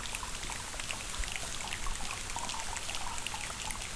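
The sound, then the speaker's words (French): Foley rain sound effect made from tongue clicks, finger clicks and crinkling plastic bags: a steady, dense patter of tiny taps and rustles, fairly quiet, continuing evenly throughout with no talking. “Des claquements de langue, de doigts et des bruits de sachets plastiques, ça donne de la pluie.”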